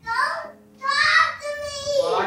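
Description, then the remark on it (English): Two young daughters, down the hall and getting ready for bed, yell in high, strained voices: three loud bursts across about two seconds, the second and third running longer and sliding in pitch, with no adult speech. “I am sitting down the hall from my kids who are yelling in the background.”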